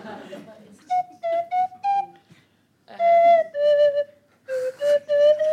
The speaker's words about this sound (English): Bought my slide whistle, just in case you made me do something.